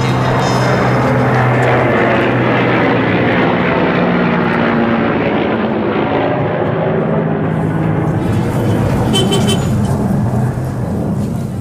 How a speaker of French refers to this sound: L'avion qui passe là, la circulation, c'est la pagaille. Donc, c'est le grand bazar ici. Le grand bazar de Kaboul, c'est l'avenue qui va de la rivière de Kaboul jusqu'au stade.